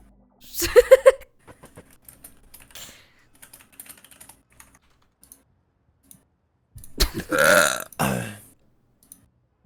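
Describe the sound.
Two loud fart noises: a short raspy burst near the start and a longer, buzzing one later, with soft keyboard-like tapping in the quiet stretch between them.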